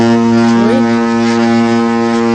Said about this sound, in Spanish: Esto es la bocina de varios barcos. Hay ciudades que tienen puerto, no sé, en Málaga atracan infinidad de cruceros, y en ciudades como Barcelona también, sí, y los vecinos, bueno, no pueden con ello, ¿no?